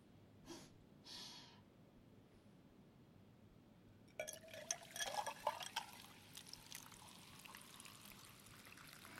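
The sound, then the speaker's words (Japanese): Two short hissy bursts, then carbonated soda is poured into a cup, a steady pour with bright crackling fizz that keeps sparkling after the stream settles. No one speaks. “喉がシュワシュワする感じもだけど、コップに入れた時の音が気持ちいい。”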